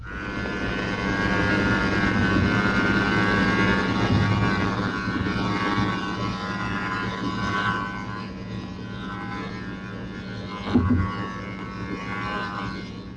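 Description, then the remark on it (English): A Foxer anti-torpedo decoy, towed behind a ship as protection against acoustic torpedoes, gives off a loud, continuous mechanical buzz with a droning, engine-like hum. It stays steady throughout, with one brief knock near the end and no voices. “The Foxer is a device which emits a loud buzzing signal.”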